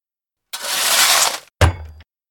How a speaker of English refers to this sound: Suddenly, Ben's spade hits something hard.